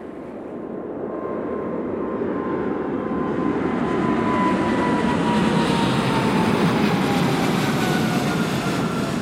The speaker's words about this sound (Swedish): Det är januari 2014. Bill Gates privatjet flyger in över London och går ner för landning.